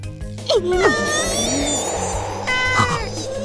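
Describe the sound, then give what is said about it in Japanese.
An aggressive cat yowls in drawn-out, wavering cries over a steady rushing blizzard, with a second harsher yowl near the end. “二人の背後に攻撃的な猫と吹雪の映像が。”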